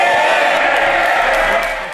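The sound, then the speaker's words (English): A dense roar of many MPs shouting "shame" at once in the House of Commons, loud and sustained for two seconds before easing slightly at the end, with no single voice standing out. “but the rest of the comments were drowned out by MPs shouting shame.”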